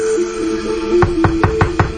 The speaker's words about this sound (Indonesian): Cukup kesal karena lama sekali. Aku pun coba mengetuk lagi sambil berkata,